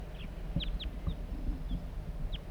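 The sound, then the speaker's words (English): A male crossbill circling in flight gives flight calls: a handful of short, sharp, high downslurred chips at irregular intervals over a steady low rumble of background noise. “Male circling in flight, giving calls.”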